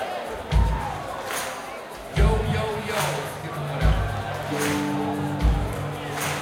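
A crowd stomps on the kick drum and claps on the tambourine in a steady rhythm, playing along to an Irish drinking song. Deep kick thumps alternate with sharper claps in a loud live sound, with a faint tone entering near the end.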